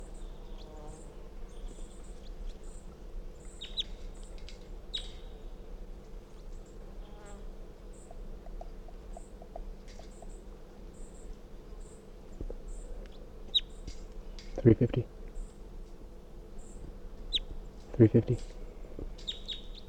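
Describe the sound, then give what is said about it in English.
A wild bird, recorded as bird 350, gives very weak, sparse high chirps over a steady, insect-like buzzing drone, with two brief louder bursts near the end. “This is 350 giving very weak calls.”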